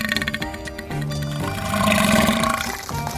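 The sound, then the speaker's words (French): A long, wet, gurgling burp that swells into a loud regurgitating heave as an umbrella is vomited up, croaky and bubbly, lasting about three seconds with no talking over it. “Il a vomi le parapluie! Ah, c'est dégueu!”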